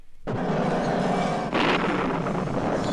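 thunder clap

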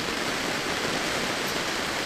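heavy rain falling

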